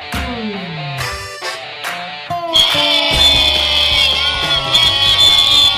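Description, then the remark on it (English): An unhappy crowd yelling, many overlapping voices shouting in displeasure; the noise swells after a couple of seconds into a loud, sustained roar that holds steady to the end. “Oh, an unhappy crowd here on today's Almanac.”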